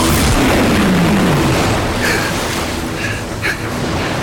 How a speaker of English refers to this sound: foregrounded by the blue incandescent bursts of energy from the guns. It's the most profound, orchestrated fireworks display imaginable. Steam rising from the guns against the Arctic freeze. The heat they're generating is immense.